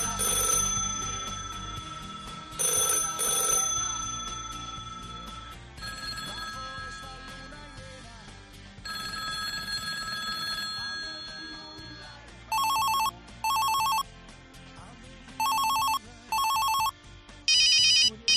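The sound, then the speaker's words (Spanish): A sequence of telephone rings and ringtones: early bell-like and tonal melodic rings give way to bright, rapid electronic trilling bursts repeating in short pulses near the end. No one speaks. “Bueno, así ha ido evolucionando el sonido de los teléfonos.”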